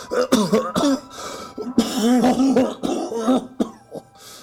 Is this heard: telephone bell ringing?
no